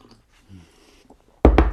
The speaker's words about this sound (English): And have a quick sip of my tea.